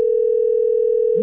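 A steady, unbroken telephone dial tone hums at constant loudness for just over a second, then cuts off abruptly with a brief low click at the end.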